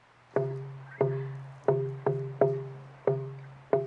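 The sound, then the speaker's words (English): Bamboo tubes of different lengths, the nderua, with the bottom end left closed, pounded on the ground by several players in an uneven rhythm: about seven hollow, resonant thumps, each ringing with a low, humming tone that fades slowly. No one speaks. “This end is pounded on the ground to make our music. Different lengths of bamboo create different tones.”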